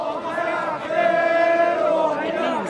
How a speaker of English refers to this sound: The crowd waved flags and chanted, "By the end of the week, Rouhani is gone."